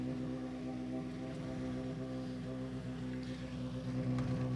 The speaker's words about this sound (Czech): No a teď už slyšíme přijíždět další závodní vůz. Tentokrát je to dvojice Černý, Černohorský. I ti se teď dostali v pořádku do cíle této rychlostní zkoušky.